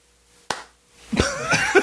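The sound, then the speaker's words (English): A single sharp, loud hand clap imitating a clap of thunder, a quick snap with a short decay, followed a moment later by voiced vocal sounds. “That was a clap of thunder.”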